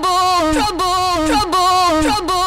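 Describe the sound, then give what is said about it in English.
A loud, harsh electronic alarm siren from a moisture sensor, tripped by a flooded basement, repeats a rising-and-falling whoop about three times in quick succession, piercing, with no talking. “Now, fortunately, I made sure that the siren on that thing was so annoying that it would get everybody's attention.”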